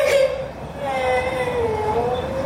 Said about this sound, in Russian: Ну, солнышко, не плачь. Все хорошо. Ты же не обожглась сильно.